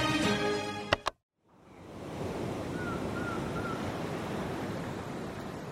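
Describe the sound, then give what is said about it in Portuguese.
After a brief musical snippet and a moment of silence, a steady rushing wash of sea waves at night on an island, heard from a bench facing the sea, fills the rest of the scene, continuous and fairly loud, with no voices. “De novo, eu, Gabi, de noite, no banco, de frente para o mar.”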